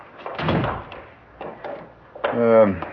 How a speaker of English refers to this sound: I just press the button. The door operates electronically.